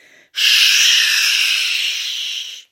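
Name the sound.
snake hissing sound effect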